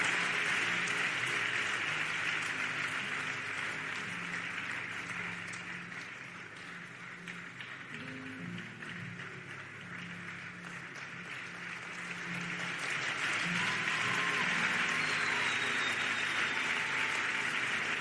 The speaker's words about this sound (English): Please, church, one more time, give them a clap offering. Let's celebrate them.